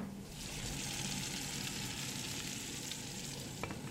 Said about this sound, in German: braten Kartoffelpuffer für alle. Dazu gibt es eine kräftige Suppe. Ständig steht hier irgendjemand in der Küche und kocht etwas.